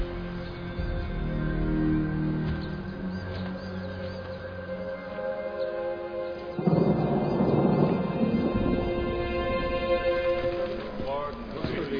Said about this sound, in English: It started raining. I find that very depressing. Depressing? Yes. Well, three depressions, actually. One after the other. They rolled in from Baffin Island in unbelievably quick time.